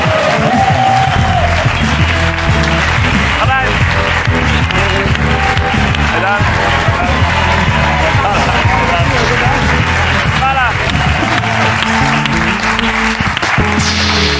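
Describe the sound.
Loud, sustained audience applause fills the room for the whole stretch, a dense wash of clapping with cheers, while a voice briefly speaks over it near the start.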